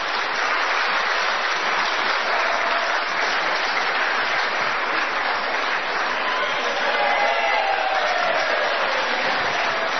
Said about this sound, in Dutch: Ja, hartstikke leuk dat hij voor mij klapt.